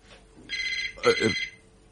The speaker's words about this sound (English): The phone. Reckon it might be the hospital with news of me... accident.